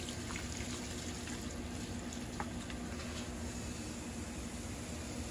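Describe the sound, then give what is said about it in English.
Regular water is poured into a hot pan while cooking, giving a steady rushing hiss and sizzle and raising steam, broken by a few faint crackles and pops, with no one talking. “Water. What's this, guys? Just regular water.”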